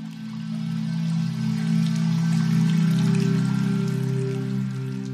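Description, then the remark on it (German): Gentle, steady rain and trickling water patter softly and continuously, with a warm low humming drone sustained underneath throughout; no one speaks. “Und du darfst dich einfach den Klängen und dem Glitzern des Wassers hingeben, die Minuten vergessen.”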